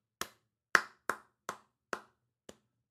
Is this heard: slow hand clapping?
yes